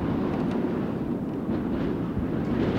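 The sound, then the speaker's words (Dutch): A strong wind roars without letup, a deep, steady rumble with gusty surges and no voices, loud and continuous for the whole stretch. “Maar luister nou eens, hoe die wind tekeer gaat.”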